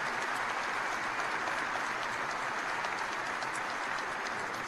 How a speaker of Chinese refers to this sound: 而当大学校长上台时，全场起立，掌声雷动，此起彼伏。那不是出于尊敬的鼓掌，而是一种同甘共苦、共患难，在危难时互相扶持的鼓励和支持。